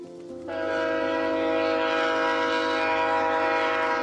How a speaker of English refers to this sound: in Sackville, New Brunswick, competing with the sound of Via Rail's The Ocean as it winds its way through the Tantramar Marshes.